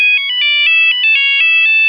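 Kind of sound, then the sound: signal or alarm, cell phone ringing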